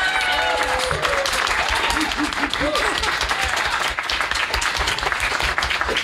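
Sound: audience applause and clapping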